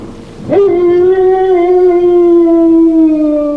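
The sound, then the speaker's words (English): A voice imitates an eerie howl: a quick upward swoop into one long, loud, sustained tone that holds steady for about three seconds and sags slightly at the end, with no talking. “And yeah, what's that fucking howling noise?”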